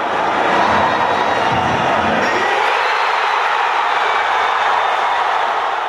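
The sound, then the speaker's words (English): A large crowd in Kansas City roars and cheers in celebration while watching the U.S. team play, a loud, dense wall of voices that holds steady for the whole stretch, with a deeper rumble fading out partway through. “Crowds in Kansas City erupted in celebration while watching the U.S. play.”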